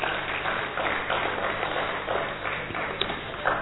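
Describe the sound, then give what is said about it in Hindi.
Steady applause from an audience at a session in Madhuban, a dense, even patter of many hands clapping that holds at a moderate level for a few seconds without voices. “अपने अभिनंदन में एक बार जोरदार ताली आप सब बजाएंगे।”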